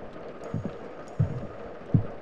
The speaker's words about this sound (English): Footsteps sound in the corridor outside my office.